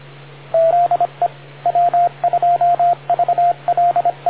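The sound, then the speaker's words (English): The 85 machine radio repeater times out, sending an irregular run of short and longer mid-pitched beeps in a Morse-like rhythm over a steady low hum on a narrow, radio-filtered channel. No one speaks. “I was able to hear everything you said by going over to the 375 machine, even though the 85 machine did get timed out.”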